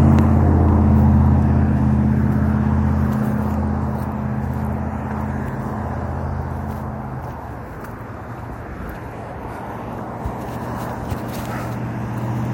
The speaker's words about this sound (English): Cars and people.